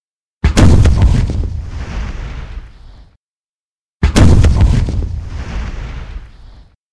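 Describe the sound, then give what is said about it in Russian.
Two heavy artillery gun shots boom out over a bay a few seconds apart, each hitting with a sharp, loud blast and then rolling away in a long, rumbling decay. No voices are heard. “Над заливом пролетел грохот орудийного выстрела.”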